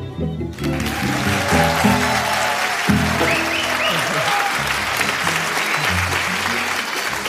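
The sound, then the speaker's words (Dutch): A live audience at an on-stage recording about beer, where someone is grinding grain kernels in a mill, claps and cheers steadily for several seconds, a dense, loud wash of applause with some whistles and voices mixed in underneath. “Ja, lieve luisteraars thuis, jullie horen het al. Het is een beetje een andere aflevering dan gebruikelijk.”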